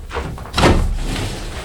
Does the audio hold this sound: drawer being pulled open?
yes